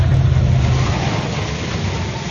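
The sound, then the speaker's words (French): A car's engine rumbles, steady and loud, easing off slightly as the vehicle pulls to a stop at a checkpoint with the handbrake, with no voices. “Avec le frein à main.”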